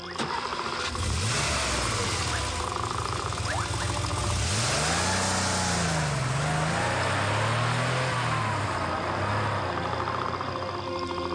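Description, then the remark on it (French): A car engine cranks and catches as the driver hurriedly starts up, then revs with rising and falling pitch as the car pulls away, loud throughout with steady rumbling noise and no talking. “Je dois démarrer tout de suite. Dans la voiture, allez, allez.”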